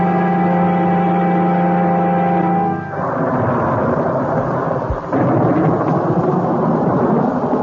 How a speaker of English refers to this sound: Nice of you to come over in all this storm, Miss Dodge.